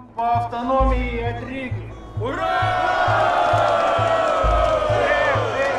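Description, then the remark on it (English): A large crowd chants "Referendum! Referendum!" in unison over a steady, rhythmic pounding beat, then erupts into loud, sustained cheering and shouting that carries through to the end. “The crowd start to chant, "Referendum! Referendum!"”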